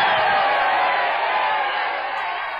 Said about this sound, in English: That was the Apollo Theater crowd, by the way, booing you off the stage.